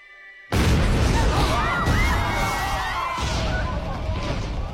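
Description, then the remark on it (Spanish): A sudden loud boom erupts after a brief quiet moment, followed by a sustained rumbling roar with crackling and whistling tones, like fireworks bursting. “Esos son fuegos artificiales.”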